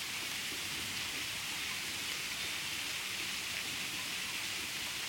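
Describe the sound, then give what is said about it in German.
Steady rain, slowly setting in, falls and patters continuously on a surface, a dense, even hiss of drops with no pauses, moderately loud, with no voices. “Und jetzt regnet sich das hier so langsam ein.”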